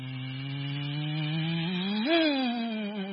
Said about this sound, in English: I don't know if you've ever had to fix a flat tire out on the highway. When a big semi comes by, you hear the sound.